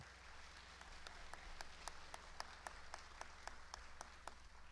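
An audience applauds steadily for several seconds, a dense wash of many clapping hands with a few sharper individual claps standing out, heard from a moderate distance in a reverberant room.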